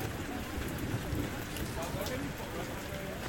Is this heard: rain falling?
yes